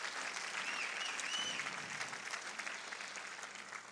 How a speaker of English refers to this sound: Can we give them one more round of applause today and tell them thank you? Praise God.